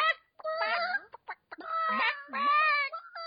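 Several chickens cluck and squawk in a busy, overlapping chatter of short harmonic calls, with brief pauses between bursts and no one talking.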